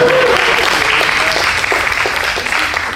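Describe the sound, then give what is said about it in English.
An audience applauds itself for coming out tonight, a dense, loud wash of many hands clapping at once that holds nearly constant for a few seconds, with a brief whistle or cheer rising near the start. “Please give yourselves a big round of applause for coming out tonight, guys.”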